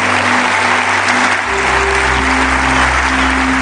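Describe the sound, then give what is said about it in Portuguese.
An audience applauds loudly for the Lord Jesus, a dense, continuous wash of clapping that holds steady for several seconds, with a low sustained organ-like hum underneath and no voices. “Se você crer, aplauda bem forte ao Senhor Jesus.”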